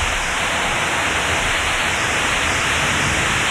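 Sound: rain falling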